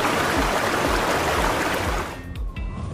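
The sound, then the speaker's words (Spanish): Water rushes and splashes steadily in a dense wash of sound, then thins out near the end to a quieter trickle with a few low gurgles. “Podemos sentir el agua jugando en la playa, nadando o salpicando en un charco, bañándonos o bebiendo agua.”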